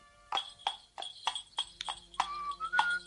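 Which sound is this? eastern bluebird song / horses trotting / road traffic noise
horses trotting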